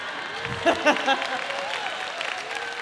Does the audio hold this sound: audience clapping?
yes